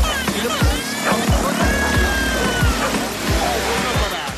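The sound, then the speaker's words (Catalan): A dense, continuous roar of street traffic heard through an open window, with rumbling engines and passing vehicles, steady and fairly loud throughout, with scattered thumps and faint higher tones mixed into the city din. “És un brugit tremendo. Després passa l'helicòpter del trànsit, que també està mirant el trànsit.”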